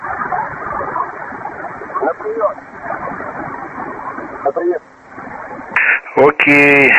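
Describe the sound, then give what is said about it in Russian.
Crackling, hissing radio interference on an amateur radio frequency fills the band, with faint garbled voices buried in the static, then sharp bursts of tonal squealing and buzzing near the end. “Я, к сожалению, не слышу, у меня тут такой уровень помех.”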